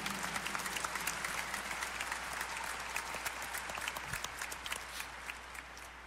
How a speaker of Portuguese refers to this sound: Vamos acolher a todos e a todas com a calorosa salva de palmas. Bem-vindos, bem-vindas.